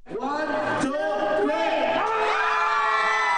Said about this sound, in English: In Thailand today, 11 people competed in an effort to break the Guinness record for the world's loudest scream. There was a warm-up before the final event.